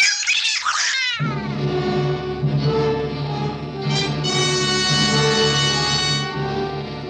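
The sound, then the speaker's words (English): A cat in a house gives a short, high meow, then breaks into a long, loud, drawn-out yowl that wavers in pitch for several seconds, with no voices. “Well, if she's that important, we'll get along. Won't we, Kitty? Nice Kitty?”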